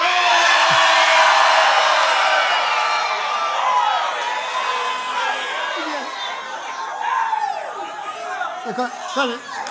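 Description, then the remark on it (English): A large crowd at a Christian church service screams and cheers continuously, many voices overlapping in a loud, dense roar with individual shouts rising and falling in pitch throughout, easing only slightly toward the end. “What I really want to do now is just scream.”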